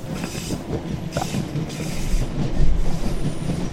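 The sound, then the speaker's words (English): A train car rolls by with a steady rumbling clatter, a brief wheel squeal early on, and a heavier low rumble swelling toward the end; no voices. “I'm saying that's the nicest whole car I've seen...”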